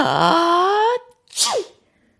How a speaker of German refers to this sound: Die Pusteblumen schweben zu dem Drachen hinauf und fühlen sich in seiner Nase ganz kitzelig an. Der Drachen muss niesen.